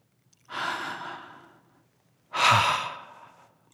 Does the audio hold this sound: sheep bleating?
no